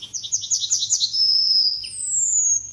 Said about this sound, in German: Ja, ich will einfach nur die Goldammer hören. Ruhe jetzt. Ja. Das geht noch 4 Minuten so. Wir lassen noch einmal hören.